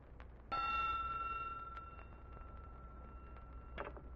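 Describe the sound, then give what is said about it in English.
A single bell strike rings out clearly, its bright metallic tone sustaining and slowly fading over a few seconds against a quiet, faintly noisy background, with a soft clatter near the end. “Just a minute, I'll ring the magic bell that brings him from his enchantment.”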